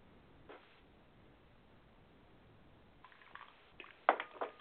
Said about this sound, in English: Hold on a second. Let me get a little sip of water here so I can get my voice together, because this is going to be a little bit of a talking thing for me today, and let's see how it plays out.